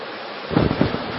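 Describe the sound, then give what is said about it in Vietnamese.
Heavy rain pours down in a steady, dense hiss, with a deeper rumbling swell in the second half, like a gust or thunder. No one speaks. “Ờ, các vị thiền long đã mưa lắm quá, mưa to quá giảng không, mọi người không nghe thấy, thôi giảm bớt đi.”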